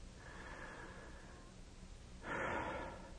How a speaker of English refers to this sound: That's right, breathing. Taking a deep breath in and letting it out slowly. It's so simple and yet so powerful.